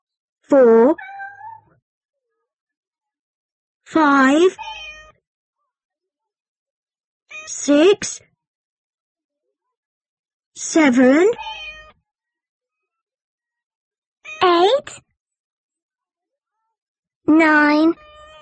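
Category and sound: animal, cats meowing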